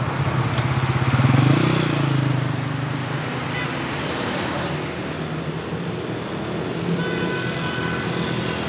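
A motorcycle engine runs, revving up briefly near the start and then settling into a steady, rumbling drone that continues throughout.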